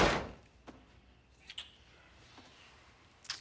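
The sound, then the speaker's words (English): A house door is closed with a broad thud at the start, followed by a few faint clicks and soft knocks scattered through an otherwise quiet stretch, with no voices. “Garrett closes the door, then pulls Claire in for a kiss.”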